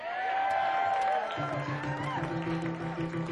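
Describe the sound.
A crowd at a club in Santa Rosa cheers and applauds loudly and steadily, with whoops and voices rising over a dense wash of clapping and noise.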